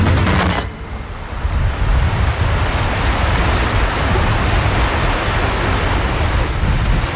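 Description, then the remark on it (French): A small river, crossed by a bridge, rushes steadily, a dense, even wash of flowing water that fills the whole scene, with a brief change in texture near the start. “Petite rivière, on traverse par un pont.”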